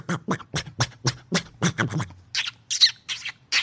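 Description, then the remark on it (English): A voice imitates a squirrel with a rapid series of sharp, chattering chirps, first lower and throaty, then higher squeaky bursts, close and fairly loud with no other sounds around. “Well, and then you got the squirrel.”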